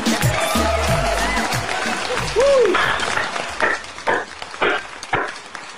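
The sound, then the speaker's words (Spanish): An audience applauds with a steady wash of clapping, a sustained whistle-like tone and a brief rising-falling whoop mixed in, then the clapping breaks into louder uneven bursts toward the end. “Tranquilo, tranquilo, que tenemos aplausos.”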